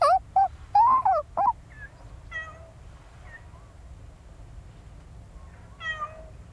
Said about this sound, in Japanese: 猫ちゃんぞね。寄ってきてくれたぞね。あーえいそうかそうか、イオがマスターのお弁当さん食べよったけん、自分たちもご飯もらえるかと思ったんじゃの。